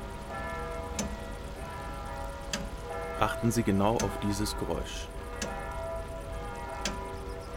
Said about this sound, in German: Und jetzt richten Sie Ihre Aufmerksamkeit auf das Ticken der Uhr.